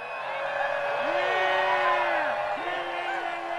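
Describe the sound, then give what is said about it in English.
A large crowd of hundreds of people in a meadow roars and cheers continuously in celebration after meditating and praying for peace, many voices blending into a dense wall of sound, with rising and falling whoops standing out near the middle. “After a while, the crowd erupted into cheers and celebration.”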